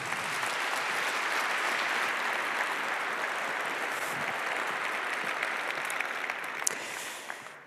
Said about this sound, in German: Einen ganz herzlichen Applaus bitte